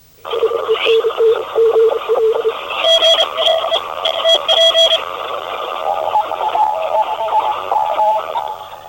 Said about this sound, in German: So tönt das etwa in Morse-Telegrafie. Wir arbeiten recht geschwind mit 120 bis 150 Zeichen pro Minute.